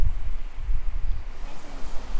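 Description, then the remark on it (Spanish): A steady, full-bodied roar of rushing water from a waterfall and a river that has risen a little, with a deep rumbling low end and constant hiss, no voices. “Ahorita está un poco creció un poquito el río y se escucha más bonito la cascada, y es una cascada muy bonita, también hay, y la cascada está hasta allá arriba.”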